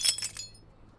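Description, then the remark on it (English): A drinking glass shatters at a bar, a sharp crash followed by a quick scatter of bright, tinkling shards that dies away in under half a second, leaving near silence. “Oops. I didn't mean your glass. Hey, bartender. Another glass for my friend here.”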